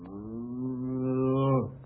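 A single long, low moo from a cow about to be milked, steady and droning for over a second before tapering off abruptly. It is loud, with no talking over it.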